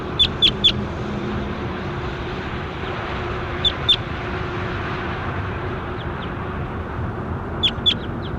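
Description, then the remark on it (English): A bird labelled number 27 is recorded calling in short, high, sharp chirps, coming in three brief bursts of two or three notes each, over a steady low rumbling background noise. “That was bird 27.”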